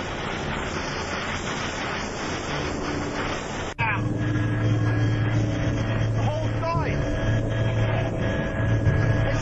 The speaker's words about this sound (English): It's our opinion that they brought the chopper right over the towers to help mask the sound of the explosion and to blow as much smoke right into the angles being used by cable television.